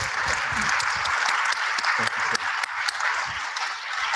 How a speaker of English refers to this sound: A round of applause. Thanks, buddy.